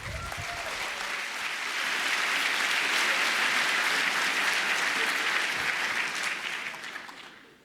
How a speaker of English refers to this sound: Please give a warm round of applause to our speakers.